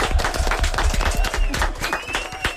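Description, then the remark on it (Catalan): A group breaks into applause, a dense, steady patter of many hands clapping at once that holds at moderate loudness for the whole stretch, with a faint thin tone threading through. “Bastant bé, molt bé, un aplaudiment.”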